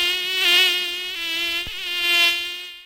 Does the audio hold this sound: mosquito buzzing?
yes